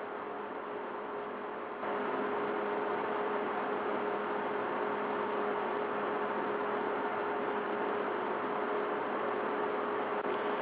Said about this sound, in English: Jeez, your fan is loud as a motherfucker.